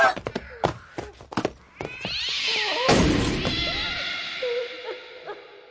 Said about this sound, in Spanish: ¡Oh, maldito gato! ¡Mira lo que has provocado!